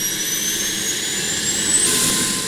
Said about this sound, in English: To do it, they use a C-130, the same plane paratroopers jump out of during war.